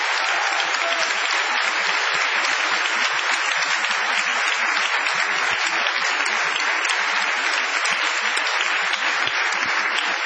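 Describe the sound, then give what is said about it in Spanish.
Sustained audience applause fills the whole stretch, a dense, steady wash of many hands clapping with no pauses or voices breaking through. “Vamos a extender el aplauso para saludar a Patricio Barton.”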